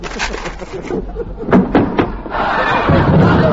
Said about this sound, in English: Yeah, sure, that door needs a little oiling, don't it?